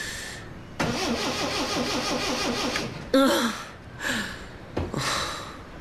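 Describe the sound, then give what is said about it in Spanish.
A car engine cranks repeatedly with a loud, rhythmic whirring grind, stopping and retrying in several short bursts without catching. “¿Por qué no arranca este coche de una vez?”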